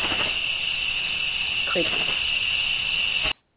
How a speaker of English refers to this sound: Crickets. So, we now have crickets this evening.